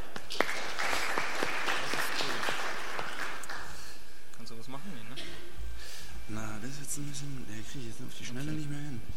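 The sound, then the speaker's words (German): An audience applauds with dense, steady clapping for about four seconds to welcome the speakers of a talk on Red Hat Enterprise Virtualization, which fades out as a man begins speaking. “Herzlich willkommen, Applaus.”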